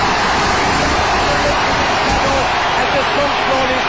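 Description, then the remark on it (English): A huge stadium crowd breaks into loud applause and cheering for Kerry's Seamus Moynihan, a dense, unbroken roar that holds steady from start to finish. “Who else would have got a round of applause like that?”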